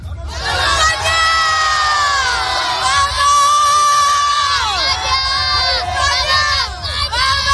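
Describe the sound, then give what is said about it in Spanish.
A large crowd of children shouts and cheers together in high, excited voices, a loud and continuous football chant of "Vamos España" with no pauses, at Moncloa, celebrating the Spanish national team's European Championship win. “Se ve el grito de vamos España, muchos niños, que es su primera Eurocopa, que la de 2012 y la de 2008 no se acuerdan muy bien porque eran muy pequeños y algunos no habían nacido, pero están aquí a celebrar esta gesta histórica”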